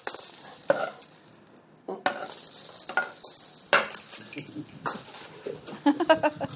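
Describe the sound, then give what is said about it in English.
A few sharp knocks ring out as a cricket ball, once used in India, is batted to a dog, spaced a second or two apart, over steady outdoor hiss with the dog's panting and faint voices. “…'s batting the ball to the dog”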